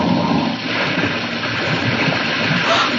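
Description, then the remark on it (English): A car slides down a muddy slope and plunges into a river, a loud, continuous rush and churn of splashing water that fills the whole moment without letting up, with no voices heard. “the car! It's in the river down there.”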